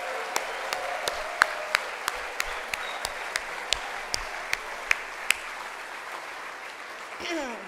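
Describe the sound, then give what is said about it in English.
Sharp, evenly spaced claps, about three per second, ring out over a steady murmur of crowd noise at a gathering where the committee and volunteers are asked to stand, then stop, leaving the background hum and a brief rustle. “Stand up, hold your applause.”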